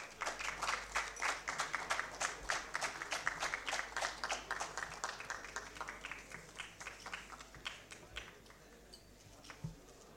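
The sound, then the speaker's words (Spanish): An audience in the Honorable Cámara de Diputados applauds a plaque presentation to a professor, with steady, rhythmic clapping that is fairly loud at first, then thins out and fades over the last couple of seconds, with no voices heard. “Fuerte los aplausos.”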